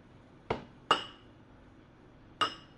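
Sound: cups clinking together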